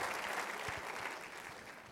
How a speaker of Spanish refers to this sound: Dele fuerte el aplauso a Jesús y póngase de pie.